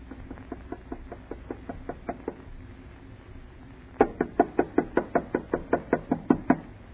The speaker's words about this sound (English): Knock harder. I can't. It hurts my knuckle.